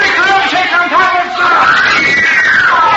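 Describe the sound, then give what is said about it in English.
A crowd of kids screaming at once around the stage door after a singer's last show, a dense, steady wall of high-pitched shrieks and yells, with one piercing voice rising and falling above the rest, loud throughout. “If he can get through those kids around the door.”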